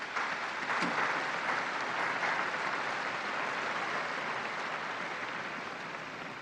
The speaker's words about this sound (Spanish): Un aplauso a los nuevos beatos.